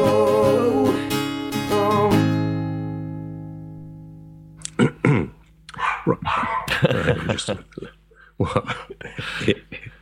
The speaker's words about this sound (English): that was edited highlights of my dog, Daisy May, having a little bark